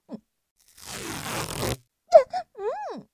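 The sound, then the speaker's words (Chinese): A strip of adhesive tape is pulled off the roll in one steady rasping rip lasting about a second, followed by a few brief vocal cries. “你撕胶带干嘛？”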